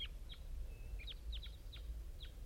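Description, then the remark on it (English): A flock of five wild birds calling, with repeated short, high, downward-sweeping chirps overlapping at irregular intervals over a steady low rumble, with no talking. “Here come the wild birds. Flock of five.”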